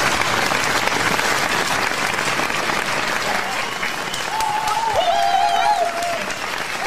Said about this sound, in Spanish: ¡Y eso es un aplauso! Oye, un aplauso ahí.